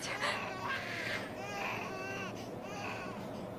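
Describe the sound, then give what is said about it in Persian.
A baby cries steadily and loudly in wavering, high-pitched wails, with a busy background murmur underneath. “اصلا برای چی موقع ساعت شروع تو با بچه اومدی بترو؟ خود بچه هم اینطوری اذیت میشه.”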